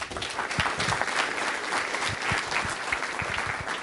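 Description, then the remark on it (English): A conference audience claps steadily for the partners who presented, a dense wash of many overlapping hand claps at an even, fairly loud level that holds for the whole stretch with no voices on top. “One big more round of applause for everybody.”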